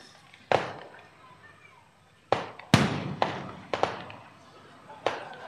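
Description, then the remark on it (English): Diwali firecrackers and fireworks bang outside in an irregular burst of about seven sharp, loud cracks, each trailing off in a brief echo, with a couple fired in quick succession. “It's interesting how people in India celebrate Diwali with so many fireworks.”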